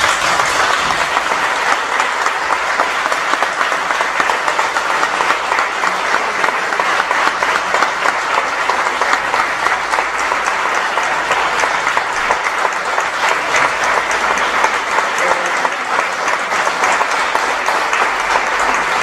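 Sustained crowd applause at a tribute ceremony in Sitges, a dense, steady roar of many hands clapping that holds at an even, loud level for the whole stretch without fading or pausing, continuing until a commemorative plaque is unveiled.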